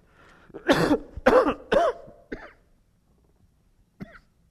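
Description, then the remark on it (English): A forceful run of three harsh coughs in quick succession, followed by a softer throat-clearing hack and a brief faint cough after a pause, from a speaker reading aloud from Luke chapter 8. “Excuse my cough.”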